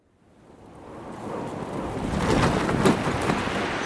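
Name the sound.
sea waves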